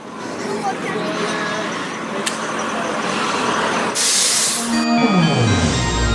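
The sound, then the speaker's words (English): A shuttle bus rumbles steadily, then a loud hiss of air brakes bursts out and the engine's pitch winds down as it slows to a stop. “Okay, I made this shuttle.”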